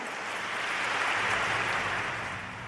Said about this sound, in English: A big round of applause during the Napa Faith and Business Conference in New York City earlier this week after Auxiliary Bishop Joseph A. Espaillat of the Archdiocese of New York called on Catholics this week to vote no on an abortion measure.